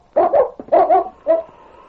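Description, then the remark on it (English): A dog, King, one of a sled dog team being readied to pick up a scent, gives a quick run of eager barks, four sharp yelps in two pairs, then ends on a short, high whimper that trails off into quiet. “I got my dog team ready now, and then we'll go to the back door of the store.”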